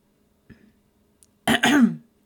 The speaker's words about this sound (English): Ah, fuck. I hate needing to clear my throat like that.